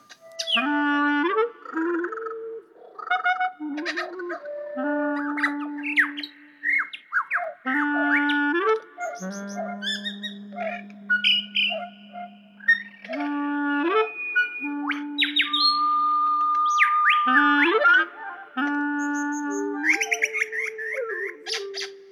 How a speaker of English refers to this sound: When I go outside and hear bird songs, I every time I hear them in a constantly changing way, I really feel that my straight-ahead listening to the birds around me has changed through thinking about this. I hear different things.